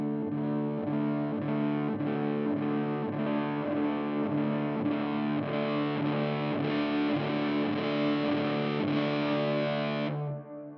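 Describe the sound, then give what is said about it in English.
Sustained electric guitar chords played through a pedal placed at the beginning of the signal chain, their attacks swelled away, repeat steadily while gritty distortion is slowly brought in and thickens beneath them before the sound cuts off near the end. No one speaks. “Put this at the beginning of your chain, and like your attack is just gone. If I do this, yeah. Slowly bring in some dirt.”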